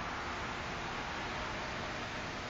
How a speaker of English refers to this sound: How do you respond to the sound of that truck going up the hill right now that we hear? Is it a perturbation on the beautiful serenity of the fields around us and the forests?